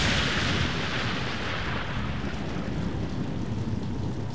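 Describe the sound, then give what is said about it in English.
A loud crash of thunder following a flash of lightning, in pelting rain, bursts in at full strength and rolls on as a dense, rumbling roar, its bright crackling edge slowly dulling over about four seconds, with no voices. “But as he sat down in the driver's seat, there was a terrific flash of lightning.”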